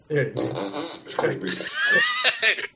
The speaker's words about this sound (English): Wow, that was a tight little short fart.